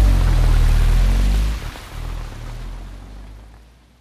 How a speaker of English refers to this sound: Dad, the pit is full of water! What? Dad, it's coming up through the drain!